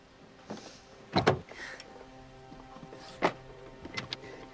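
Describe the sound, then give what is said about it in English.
The handle of a locked car door is yanked repeatedly, producing a few sharp clunks and rattles spaced irregularly, while the door stays shut. Fairly loud, with a faint hum underneath and no voices. “Nick tries to open the door, but it's locked.”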